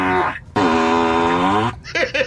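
Loud novelty fart sound effects played by a Tesla car, showing its different fart sounds: a short blast, then a long drawn-out tonal one that wobbles in pitch, ending in a few quick sputtering bursts. No talking.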